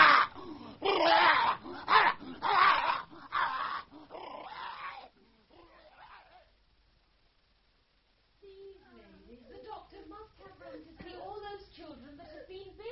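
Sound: dog grunting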